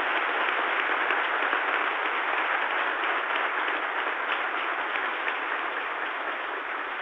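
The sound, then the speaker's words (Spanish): Sustained applause from a crowd for the Universidad Simón Bolívar, a dense steady wash of many hands clapping at an even, fairly loud level for several seconds with no voices over it. “Eso merece un gran aplauso para la Universidad Simón Bolívar.”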